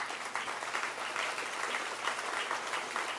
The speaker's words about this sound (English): The first people that clap get the credit. The rest of you, no credit. I know insincere clapping when I hear it.